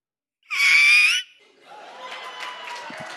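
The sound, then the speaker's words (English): A person lets out one loud, high, strained cry imitating a rooster's crow, lasting under a second, followed by a crowd cheering and clapping. “We need you to sing like a rooster.”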